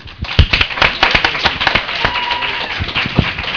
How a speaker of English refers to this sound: First of all, thank you all for coming here. Round of applause.